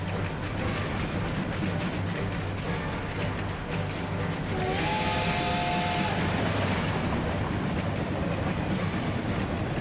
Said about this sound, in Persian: اون قطار به سمت شهر غربی میره.